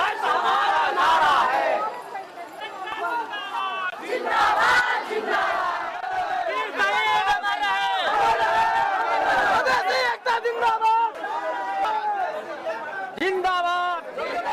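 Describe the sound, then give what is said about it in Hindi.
A large street crowd of Madhesi community members in Nepal, on strike, chants and shouts slogans against the new constitution in loud, overlapping voices, rising in rhythmic bursts with constant babble beneath, energetic throughout. “पिछले 40 दिनों से नेपाल में हड़ताल है और संविधान के विरोध में आवाज बुलंद कर रहे ये लोग मधेसी समुदाय के हैं।”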